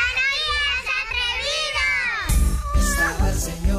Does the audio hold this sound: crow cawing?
no